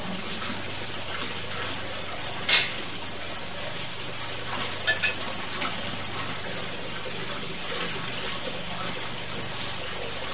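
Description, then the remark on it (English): A steady pour of Four Roses liquor from a brand new bottle into a glass runs for several seconds, with a few brief glassy clicks along the way. “Good pour and take a look.”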